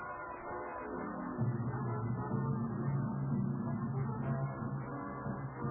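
A train bound for Washington runs with a continuous, dense rumble. After about a second and a half, a low sustained horn blast rises over it and holds steady to the end. No one speaks.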